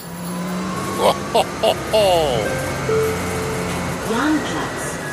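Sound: bus ride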